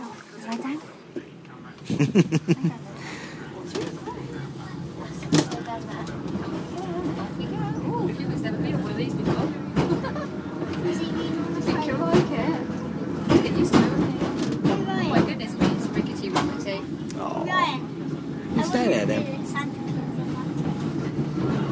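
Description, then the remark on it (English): A rickety train rolls along with a steady, heavy low rumble, broken by frequent irregular rattles, clunks and sharp clacks that continue throughout. “So we're off, and quite rickety and different. Labradors are next to me on the train.”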